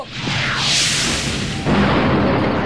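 A rocket launcher fires with a loud, rushing whoosh, followed by an abrupt, heavy blast and a sustained roar of noise. Both are close and loud, with no talking.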